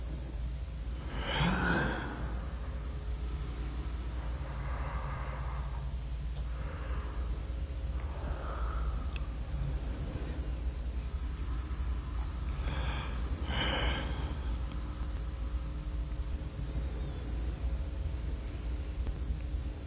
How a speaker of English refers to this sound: wissenschaftliches Experiment zur Klärung der Frage, ob ein Gähnen, dem man ganz genau anmerkt, dass es nur ein auf Tonband aufgenommenes, also vom Menschen abgelöstes ist, auch so ansteckend wirkt, wie das Gähnen eines Menschen, den man sieht.